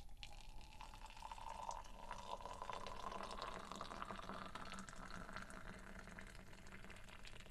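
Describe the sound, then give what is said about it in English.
Tea pours steadily into a cup for several seconds, poured by someone standing on a table, a continuous trickle whose pitch slowly rises as the cup fills. No one speaks. “Could you pour the tea any slower?”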